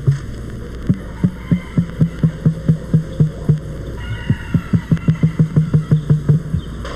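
An emu makes a deep, resonant thumping drum from its breast, a steady run of low booming pulses, a brief pause, then a quicker, slightly louder series of thumps.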